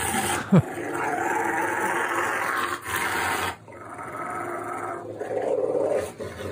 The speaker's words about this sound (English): I wouldn't put my neck so close to that dog. Yeah. I don't care who you are. How do you figure out, like, oh, this is all, like, this dog is all barking?